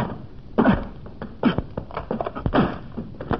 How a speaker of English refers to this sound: Nick, you're kicking right through the frame of the door. Yes, Scubby. The termites have done good work on it. The wood's thoroughly rotten here close to the ground.